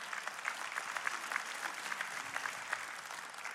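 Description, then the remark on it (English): An audience claps steadily, a dense wash of many hands with bright, crisp individual claps popping out, sustained at an even level throughout without any voices. “You can clap for that.”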